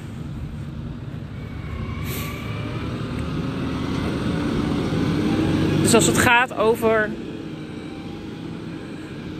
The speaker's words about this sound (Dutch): Oh, ik ga eventjes de andere kant op lopen, want er komt een tractor aan met herrie.